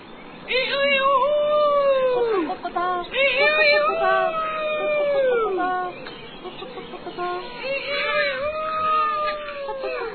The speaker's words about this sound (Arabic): لماذا يصيح الديك هكذا بأعلى صوته؟